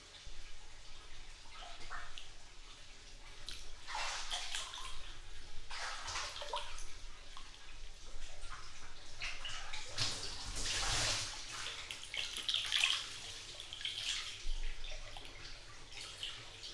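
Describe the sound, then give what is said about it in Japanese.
Bath water runs and sloshes steadily as two people share a bath on a rainy day off, with irregular splashes and soft drips rising above the flowing wash every few seconds; no one speaks. “こうして君とお風呂入れるわけだし。”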